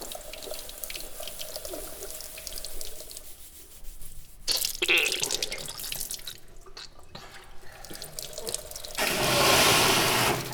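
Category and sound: household object, water running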